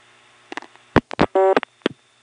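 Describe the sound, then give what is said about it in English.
Mechanical clicks and clunks from an incoming selector in telephone exchange switching gear as it cuts in, with a brief buzzy dial tone between the clatter, followed by one more sharp click. “This particular incoming selector actually has dial tone sound as it starts to cut in.”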